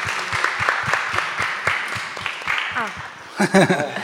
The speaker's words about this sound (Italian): Sì, un bel applauso al nostro fonico.